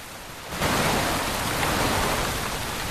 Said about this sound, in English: the loch is engulfed in a torrential downpour. The rain pounds the water relentlessly